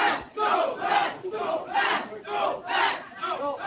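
crowd, children shouting

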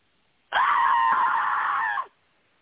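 human body sound, person screaming loudly

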